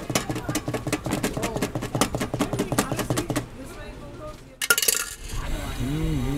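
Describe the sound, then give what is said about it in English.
A chocolate egg cream drink being mixed: a spoon clatters quickly and steadily against a glass for several seconds, then the stirring fades into a quieter stretch with people talking. “Okay, now we are mixing it. It's very cold drink, like pretty much like milkshake, but it has a lot of salsa water in it.”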